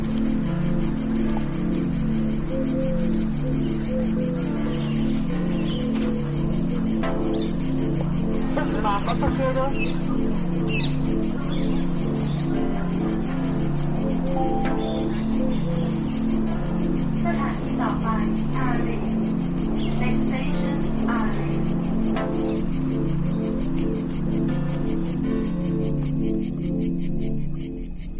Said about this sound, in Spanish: i això és el cant de la xixarra.